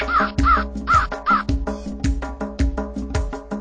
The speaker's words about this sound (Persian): پنج تا کلاغ زیبا خوشحال و شاد و خندون قار و قار قار میخونن.